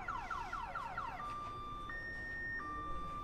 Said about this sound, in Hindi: वो गाड़ी का सेफ्टी अलार्म बज रहा है।